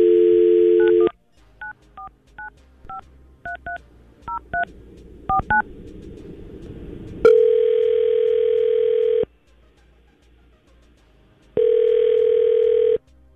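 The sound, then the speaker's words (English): Radio station QYK hosts place a phone call: a steady telephone dial tone, then a quick series of short dialing beeps at varied pitches, followed by long ringback tones with a pause between them. No one speaks. “Let's give her a call.”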